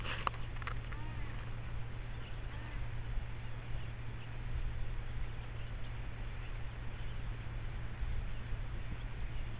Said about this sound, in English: For now, it must have been a steady stream of several kilometers of birds. Just whooshing past.